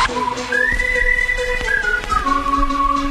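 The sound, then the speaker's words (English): A shrill, sustained whistle sounds over a dense, noisy backdrop, its pitch holding steady, then sliding down and resettling in a long continuous tone. No one speaks. “Let me hear you say. Louder. I said louder. Blow my whistle”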